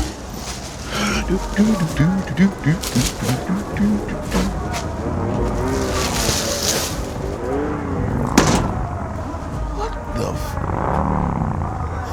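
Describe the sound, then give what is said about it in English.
Motorcycle engines roar and rev in a steady, dense rumble, with a wavering pitch early on and a sharp loud burst partway through before the droning continues. “Motorcycles.”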